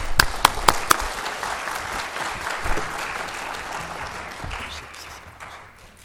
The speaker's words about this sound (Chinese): 那我们非常感谢他今天从Houston。 赶过来，他们两位一起来，所以我们先鼓掌欢迎他们。